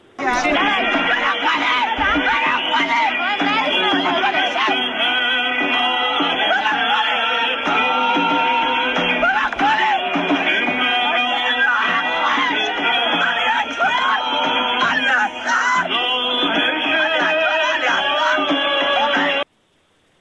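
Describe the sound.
Mourners in Iran, including the mother of a young man who was killed, wail and scream together at a ceremony, loud, with overlapping cries rising and falling continuously for about nineteen seconds before cutting off abruptly.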